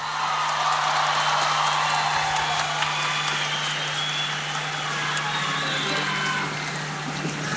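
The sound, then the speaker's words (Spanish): Sustained audience applause for a music teacher who plays Latin American string instruments, at a festival broadcast live from Curicó: a dense crackling wash of many hands clapping at steady loudness throughout, with a low constant hum underneath and no voices. “Y nos gustaría que le dieran un gran aplauso al profesor”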